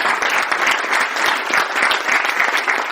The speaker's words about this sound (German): Einen kräftigen Applaus für die drei.